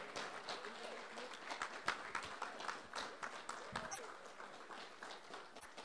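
An audience at a convention applauds the new audio staff with dense, steady clapping that fills the whole six seconds, many hands blending into a continuous crackling roar with occasional louder individual claps.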